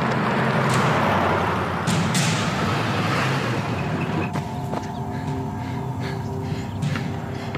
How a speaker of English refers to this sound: So a Latino kid stops, and then he sees an Asian kid, and then both of them start running because here comes that truck again. Run! It's got an Ed Gillespie bumper sticker on it.